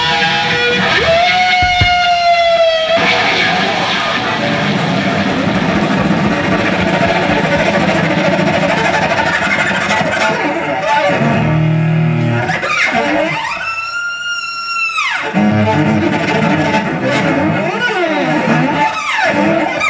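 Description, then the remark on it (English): Loud, gritty distorted electric guitar plays continuously in a war protest song, with sustained notes, sliding bends and a bright, ringing held tone near the end over a thick, buzzing wall of sound. “The guitar playing is really, as an instrumentalist, I'm really into it in terms of the virtuosity, the power of it, just the sound that he was creating, and distortion, all that.”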